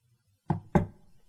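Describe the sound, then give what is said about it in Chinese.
Two firm knocks on a door in quick succession, fairly loud, each with a short hollow resonance, against an otherwise quiet background. “敲门声响起，与此同时还响起一个没什么感情的声音”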